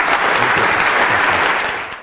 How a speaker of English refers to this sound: And with that, I would like to invite you for a round of applause to Dr. Flannery again.